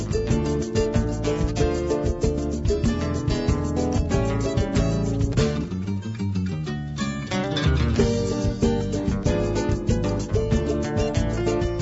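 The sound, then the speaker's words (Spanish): Brazilian music plays loud and continuous, with a busy rhythmic groove and layered instruments that thin out briefly near the middle before the full band returns. No voices speak over it. “Lo segundo fue música brasilera.”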